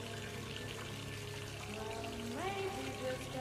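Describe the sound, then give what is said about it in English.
Water runs steadily into a bathtub as a bath is drawn, a continuous rushing hiss with faint tonal ringing, and a brief rising tone cuts in near the end. “I heard her draw the water and then began singing softly to herself as she dipped into the water.”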